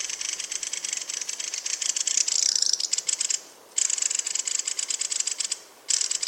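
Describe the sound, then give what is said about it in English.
A bird's harsh alarm call rattles on continuously like an old-fashioned wooden rattle, a fast, dry, high-pitched clatter broken by two brief pauses. No one speaks. “And the other thing you hear them doing all the time is their call and their alarm call, and it sounds like one of those old fashioned wooden rattles.”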